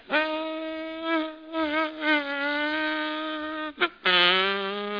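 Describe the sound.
A voice imitates a mosquito's whining buzz as it flies in a grocery store and lands on a small piece of Limburger cheese, wavering in pitch as if flying about, breaking off briefly near the end, then resuming with a lower, steady drone. Fairly loud, no other sounds.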